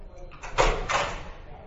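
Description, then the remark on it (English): A door is opened to let people in, with two quick rattling, scraping bursts in close succession, over low room noise and faint background murmur. “Man, could you open the door there, please, for people?”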